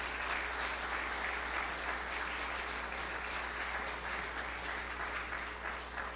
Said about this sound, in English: Maybe it's appropriate for you to applaud with me this church in this atmosphere.